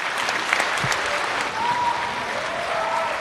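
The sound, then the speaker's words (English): A large, well-mannered audience in an auditorium claps steadily and enthusiastically for an encore after a performance, a dense, continuous wash of applause, with a few faint whistles rising above it. “It was a well-mannered crowd and eager for an encore.”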